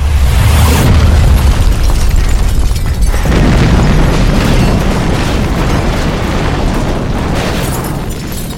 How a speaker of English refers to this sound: And so you guys go back out of the car and you drive a good distance away. And there's two explosions. One's in the pit with the creature and then one's with the statue. Sets the place on fire.